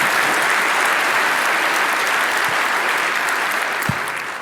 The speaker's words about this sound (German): Das heißt, grundsätzlich ist das schon ein funktionierendes und solides System, was da eingesetzt wird. Genau, auch mal einen Applaus wert.